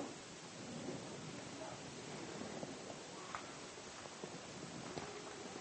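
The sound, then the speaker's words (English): A thunderstorm sound: steady, even rain hiss with scattered small patters and drips, a faint low rumble underneath, fairly quiet and continuous throughout with no voices. “Well, we're going to leave the journey there. In the midst of the storm.”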